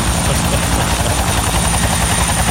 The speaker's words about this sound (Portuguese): Vou acionar o pessoal aqui, mandar o nosso helicóptero e buscar a moçada aí pra cantar pra gente aqui. Já, já, então ele tá decolando. Já pode decolar? Então decola! Vai lá buscar a galera! Ah, o helicóptero indo buscar.